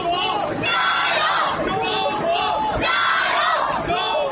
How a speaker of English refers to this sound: An estimated 10,000 Chinese students chanted the Mandarin equivalent of Go China and flooded Seoul's Olympic Park with a sea of waving Chinese flags.